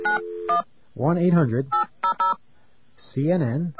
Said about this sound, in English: All right, let's see what we're getting ourselves into here. Got a dial tone, okay.